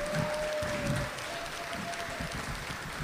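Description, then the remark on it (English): On Veterans Day evening, an audience claps steadily for the veterans in the crowd who served the country: a dense, sustained round of applause, a crackling wash of many hands at an even loudness throughout, with a faint thin tone humming beneath it. “If so, just a big round of applause for all those of you who have served our country.”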